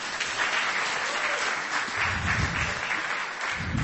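An audience claps steadily for a few seconds, a dense crackling wash of many hands, fairly loud and even throughout with no voices over it.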